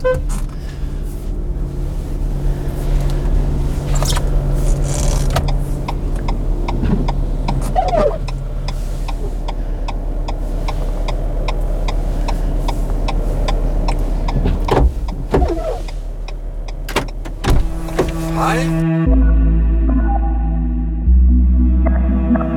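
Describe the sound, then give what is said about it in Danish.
Steady low rumble from inside a car with scattered clicks and thumps as a passenger climbs in and settles for a road trip; a door shuts firmly near the end, and the cabin hum becomes quieter. “Velkommen i bilen”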